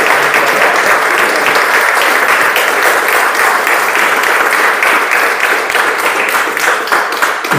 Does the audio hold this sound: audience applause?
yes